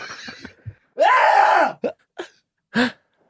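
A man coughs theatrically: a long, strained, groaning hack, then three short, sharp barks spaced apart, loud and with no one talking.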